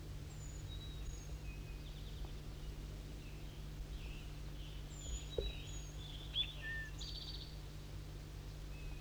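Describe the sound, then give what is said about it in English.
Birdsong being recorded: thin, high whistled notes come in scattered short phrases over a steady low hum and soft outdoor background, with no voices. “Start recording bird 4-3 singing.”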